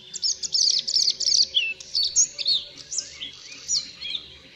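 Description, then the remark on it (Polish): A bluethroat sings a rapid, varied stream of high chirps, trills and whistled phrases, continuous, with no voices present. “Podróżniczki przylatują do Polski pod koniec marca lub na początku kwietnia”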